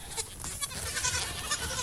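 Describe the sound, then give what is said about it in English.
Several baby goats bleat, their high, wavering cries overlapping almost continuously over a steady background of shuffling and rustle as they come toward the listener. “Oh, speaking of kids, I'm surrounded by baby goats. Oh, here they come.”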